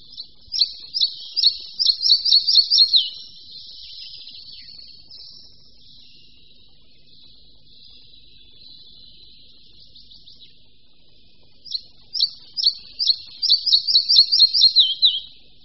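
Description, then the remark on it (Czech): A flycatcher sings two loud, bright phrases of rapidly repeated high notes that drop in pitch and slow toward the end, with softer twittering in the gap between them. “Zpěv je dosti hlasitá řada klesajících a zpomalujících se tónů, trochu připomínajících budníčka většího.”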